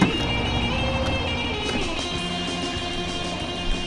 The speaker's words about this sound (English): The barge docks, and the empty truck changes place with one full of these boulders and prepares to depart.